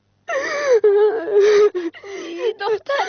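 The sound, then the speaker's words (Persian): A girl cries and whimpers, her voice wavering and breaking into short sobbing bursts between gasping breaths, fairly loud throughout. “دخترم مادرت برد بمره، حتی تالی گریه میکنی.”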